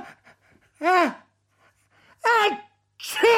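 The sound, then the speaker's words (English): A voice imitates an exaggerated sneeze, three loud vocal bursts with rising and falling pitch building up in drawn-out, theatrical gasps. “muttered the snotbird as it danced from one foot to the next, its eyes closed, its wings flapping by its side, completely overwhelmed by the need to sneeze.”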